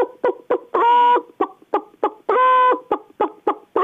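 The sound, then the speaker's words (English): A voice imitates a second hen cackling happily along with a hen that has laid an egg, with short clipped clucks in a steady rhythm broken by two longer, drawn-out squawks, loud with no other sounds. “And then another hen will be happy with her.”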